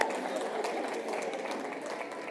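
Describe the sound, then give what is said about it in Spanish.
A crowd claps for chosen participants called to come forward, in a dense, steady wash of applause for a couple of seconds, holding a fairly even level throughout with no voices standing out. “Sí, aplauso, por favor.”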